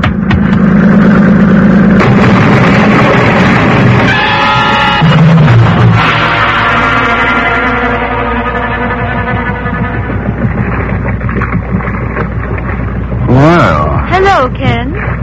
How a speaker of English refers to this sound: that boat, it's getting pretty close, isn't it? Time it slowed down? Not if they intend to ram us.